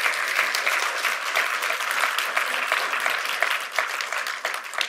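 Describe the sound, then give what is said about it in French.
A large crowd at a morning worship gathering claps steadily and continuously to give glory to God, a dense, even wash of applause that stays at a consistent level throughout, with no voices standing out. “Et ce matin, je veux qu'on rende gloire à notre Dieu, qu'on l'applaudisse et qu'on l'acclame pour qui il est.”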